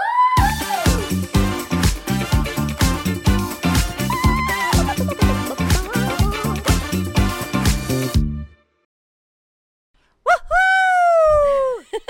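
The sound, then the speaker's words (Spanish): After a stretch of rhythmic music and a brief silence, a person lets out a loud, drawn-out, loving scream lasting about two seconds, its pitch rising and falling. “Eso tiene que ser un grito amoroso.”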